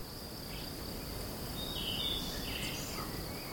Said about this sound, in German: Er schnürt die Wanderschuhe und steigt auf in die Berge, dort, wo die Grillen zirpen und die Vögel zwitschern, wo die Luft sauber ist und es schmeckt nach einem frisch geschnittenen Gras.